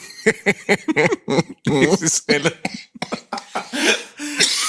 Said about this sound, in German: er hat auch einen Husten. Ja, es geht dir schlecht. Warst du erkältet? Ich war erkältet, ja. Ich war die letzte Woche wirklich erkältet.